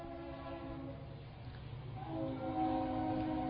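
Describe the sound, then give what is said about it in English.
A train rumbles past, its steady low roar joined by long, sustained horn tones that swell louder toward the end, with no one speaking. “Love that train.”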